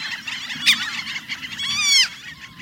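Franklin's gulls calling in a dense, overlapping chorus of high, nasal, laughing cries, with a sharp louder burst early on and a rapid run of rising calls near the end over a low rumble.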